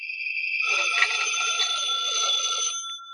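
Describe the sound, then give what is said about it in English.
A telephone rings at home in one steady, continuous burst of bright, trilling bell tone lasting a few seconds, clear with no voices. “When I got home, the phone was ringing.”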